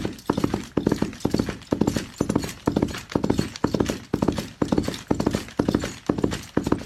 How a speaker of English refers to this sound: These sounds aren't very convincing on their own, but when they're combined, they sound remarkably like a galloping horse.